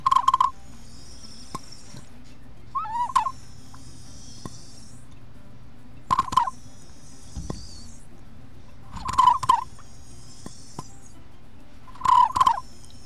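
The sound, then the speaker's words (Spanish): A zoomorphic bird-shaped water whistle, filled with water and moved from side to side so the water pushes air through it, warbles in five short bursts, each a wavering, bubbling trill like birdsong, spaced a few seconds apart over a quiet, faintly humming background with no talking. “el agua pasa y empuja el viento, entonces una figura zoomorfa de un ave que hace ese sonido parecido a unas aves”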